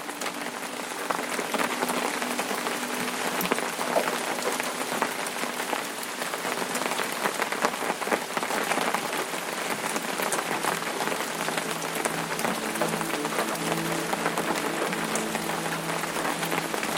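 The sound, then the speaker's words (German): Raindrops patter steadily on an umbrella, a dense, even crackle of countless small taps that holds at a constant level throughout, with a soft low drone underneath and no voices. “Die Tropfen tanzen auf dem Schirm und das feuchte Gras gibt unter deinen Schritten sanft nach.”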